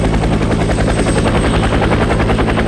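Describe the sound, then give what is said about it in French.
A helicopter roars overhead, its rotor chopping in a rapid steady pulse with a whining engine tone, loud and continuous throughout with no voices. “C'est quoi cet hélicoptère ?”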